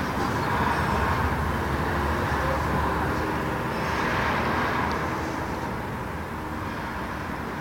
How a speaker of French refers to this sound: J'habite près de la route. La nuit, j'entends les bruits des voitures qui vont à leur affaire. Pour moi, ce sont les sons de la fugacité du temps.